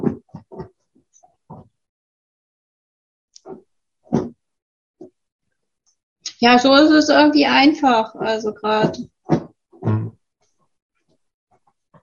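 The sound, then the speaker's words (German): A dog snuffles and snorts in a short, busy burst of grunting sniffs while settling into its spot, with brief bits of a person talking before and after. “Mein Hund macht gerade ein bisschen Geräusche im Hintergrund.”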